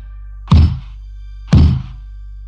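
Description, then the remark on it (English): Knocking on a wooden door heard from a few feet away: a freestanding door with a shiny golden doorknob, without a frame, standing in the middle of a forest. Three heavy, evenly spaced thuds about a second apart, each deep and resonant with a short decay, over a faint low hum. “What I heard matched what I saw, knocking on a door from only a few feet away.”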